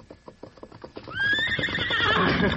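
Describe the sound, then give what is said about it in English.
Hoofbeats clop in a quick rhythm for about a second as the horse Morning Star comes right over to a boy, then a loud, wavering horse whinny rises and rings out, trailing off with breathy shudders. “That's about the finest horse of the lot.”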